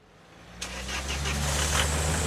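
car engine starting

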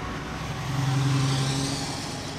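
city road traffic

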